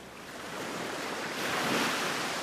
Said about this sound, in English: he wasn't hearing chords, he was hearing the noise of the sea, or something of the sort.